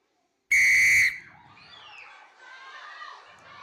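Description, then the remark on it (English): A single loud, shrill whistle blast lasting about half a second, sharp, followed by a low murmur of faint background noise. “Whistle, 4-2.”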